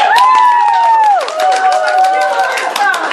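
An audience applauds loudly and steadily throughout, a dense crackle of many hands clapping, with drawn-out cheering or whistle-like tones sliding over the top.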